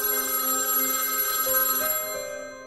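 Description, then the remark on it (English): A home telephone rings with a bright, sustained electronic bell tone, steady, fading slightly at the end; no one speaks. “And soon enough, that silence would be interrupted by their phone ringing.”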